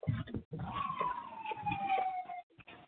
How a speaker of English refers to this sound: You're out there with the sirens. We can hear you walking.